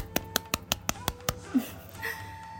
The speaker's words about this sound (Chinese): 距离第一次制作音声已经过去了半个月的时间，走到了第三期，离不开大家的支持和包容，鼓掌。